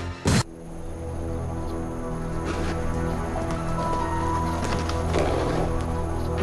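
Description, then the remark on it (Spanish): A champion racehorse's hooves thud a few times over a steady low rumble, after one sharp knock at the start. A brief whinny rises in the middle. No voices are heard. “Un caballo de carreras campeón tuvo que ser sacrificado.”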